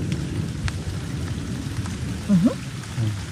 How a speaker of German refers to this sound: Und jetzt ist heute der Ton für die Woche der Donner. Ja. Oder? Das ist doch mal ein schöner Ton für die Woche.